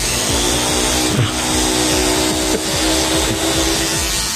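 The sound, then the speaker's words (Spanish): A steady, loud motorized buzz with a dense rotor whine from a drone during a race, holding evenly for several seconds as it hovers overhead, with no talking over it. “es el helicóptero que está subiendo, ahora es un dron, cambio. Escuchamos al dron.”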